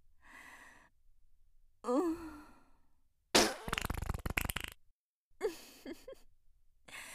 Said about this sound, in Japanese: 気が緩んでおなら出ちゃった。ごめんね。大きいお尻が目の前なのに、おならこいちゃって。臭いけど、君ならマッサージ頑張れるわよね。